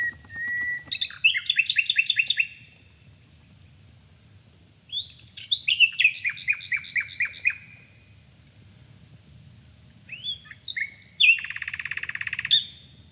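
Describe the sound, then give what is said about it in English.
A nightingale sings three separate phrases, each a burst of rapid repeated notes and rich whistles, the last ending in a buzzy trill, clear over a low steady background rumble. “We are a bit nightingale. Nightingale is a bit human.”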